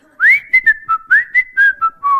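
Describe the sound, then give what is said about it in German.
A man whistles a short, bright tune in a doctor's waiting room: about eight clear notes, opening with an upward glide, then hopping between steady pitches in a lilting rhythm, with no talking. “Ja, vor 2 Wochen eine Nachuntersuchung, da kommt da so ein Vogel rein und pfeift die ganze Zeit.”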